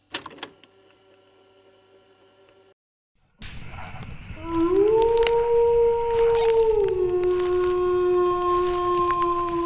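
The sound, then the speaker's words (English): A long wolf howl sound effect, played from a soundboard, rises and then holds a steady, loud, mournful tone for several seconds. A short burst of other sound and a brief silence come before it, and no one speaks. “The wolf howl is back. I have the soundboard”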